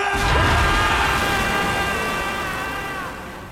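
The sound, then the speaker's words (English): A loud, sudden explosive burst swells into a dense, roaring rush laced with eerie ringing tones, then slowly fades over a few seconds, like a dark magical blast: shadows exploding outward from a man's body as he screams in pain. “shadows explode from his body.”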